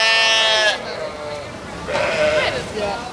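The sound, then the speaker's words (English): Sheep bleat loudly: a long, wavering cry, a brief pause, then two more quavering bleats in quick succession. “I love cows, I love pigs and goats, but I don't think I'll ever fully give up the sheep.”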